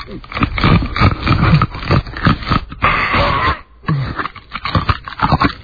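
Loud, irregular crunching as a man chews ice cubes at a microphone, a quick run of gritty cracks and grinding bursts mixed with strained, wheezy groans and breathy noises as he gags.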